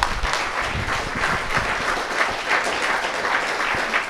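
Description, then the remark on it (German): An audience applauds a monthly guest steadily, a dense wash of many hands clapping at a fairly even loudness for several seconds with no voices standing out. “Zuerst einmal einen herzlichen Applaus für dich.”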